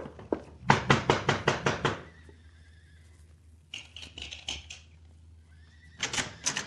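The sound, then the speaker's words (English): A quick, steady run of hoofbeats clatters, then a horse lets out a high, wavering neigh that rises and falls before the galloping hooves pick up again at the end. “I want you to go to the corral behind the house and saddle the big Palomino horse for the senorita. Bring him around front with our horses, amigo.”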